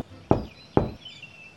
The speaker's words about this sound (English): Now to the house comes Goldilocks, and on the door she gives three knocks.